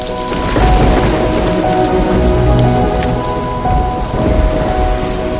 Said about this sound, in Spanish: Llovía y hacía frío en la calle.